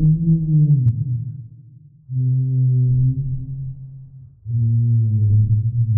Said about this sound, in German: Zusammen mit den anderen Unterwassersounds ergibt der Finger auf der Glasscheibe eine klangvolle Atmosphäre für den Film.